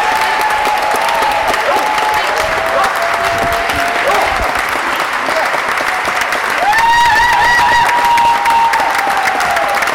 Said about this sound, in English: The chamber, filled with advocates who'd worked for many years to pass this bill, erupted into loud cheers and a long-standing ovation for senators who voted for the bill.